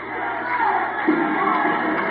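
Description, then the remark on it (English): A wrestling arena crowd cheers for J-Mac and the Cadillac Cowboys in a steady, dense roar of many voices, holding loud and unbroken for the whole couple of seconds with a few swells along the way. “Listen to the fans in this building.”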